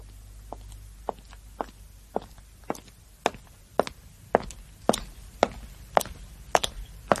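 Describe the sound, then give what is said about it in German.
A steady series of footsteps of someone entering through a door, about a dozen firm steps in an even rhythm, growing slightly louder as they go, with no talking and a faint low hum at the start. “Ja, ah, aber jetzt war es wirklich die Herein. Tür. Einfach aufmachen.”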